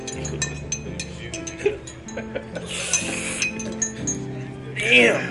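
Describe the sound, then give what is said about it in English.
Champagne glasses clink repeatedly in quick, irregular taps, bright and high-pitched, ending with one louder ringing chime that lingers, over a low murmur of background voices. “Now, will you be having some of our finest champagne and some of our fanciest glasses?”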